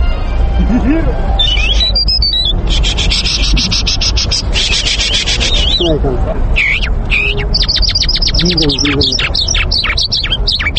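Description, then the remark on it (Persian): A parrot mimics human speech in squawky, voice-like phrases, mixed with dense chirps, whistles and rapid trills from other birds, continuous throughout. “بر علاوه توتی، پرندگان دیگر هم هستند که تا اندازه میتوانند اصوات انسان را تقلید کنند، که از جمله میتوان مینا و جل را نام برد.”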